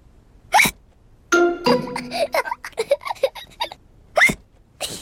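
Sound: child hiccuping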